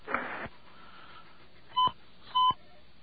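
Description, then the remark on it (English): Two short, steady telephone keypad tones sound in quick succession as numbers are pressed on a phone during a radio call-in, each a clean dual-pitched beep, after a brief burst of hiss and a click. No one speaks. “As we press numbers here.”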